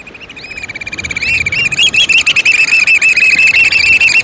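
Loud, piercing whistled calls of black oystercatchers, repeated in a rapid, excited series that builds up and then runs continuously, several birds calling with no talking.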